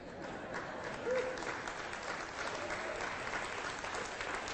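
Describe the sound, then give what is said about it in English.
A crowd applauds steadily, a dense wash of many hands clapping at an even, moderate level for several seconds with no voices standing out. “Don't clap, just throw money.”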